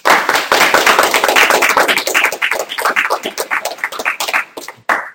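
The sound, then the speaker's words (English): A room full of people applauds the panelists at an English Major Association event. Dense overlapping claps stay loud and steady, then thin out into scattered individual claps before a final brief burst. “So briefly before we break, on behalf of the English Major Association, I'd like to thank everyone for attending, and let's give a round of applause for our panelists.”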